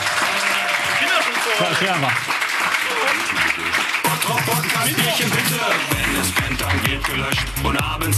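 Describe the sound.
A crowd claps steadily and loudly for several seconds, with scattered voices calling out over the applause and a low booming rhythm joining in near the end.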